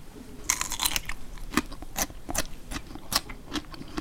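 Crisp crunching of someone biting and chewing a radish, with about a dozen sharp, irregular crunches over a few seconds and no talking.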